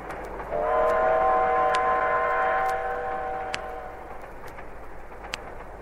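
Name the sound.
train running with whistle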